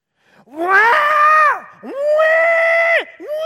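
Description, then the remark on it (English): A voice mimics a wailing baby, with two long, loud, rising cries and the start of a third, each strained and sustained, alone without talk. “You know, screaming their head off.”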